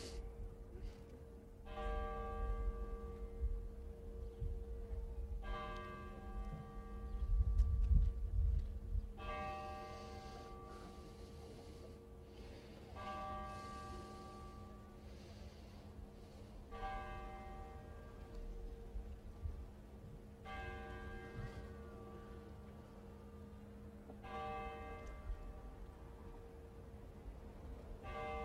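A church bell tolls steadily, each deep, resonant stroke arriving every few seconds and ringing out with long overlapping hum, with a low rumble of background noise and no one talking.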